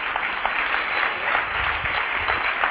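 A crowd claps steadily, a dense wash of many hands applauding, sustained and fairly loud for a few seconds with no speech over it.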